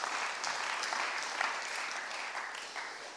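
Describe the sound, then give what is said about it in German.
Applause from a Christian audience during a sermon, a steady wash of many hands clapping at fairly even loudness, dense and continuous with no voices standing out. “Das ist ein Applaus wert, hey.”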